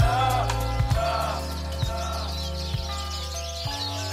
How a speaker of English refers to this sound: Hello, birds. I'm proud to say that these birds were actually recorded outside my studio.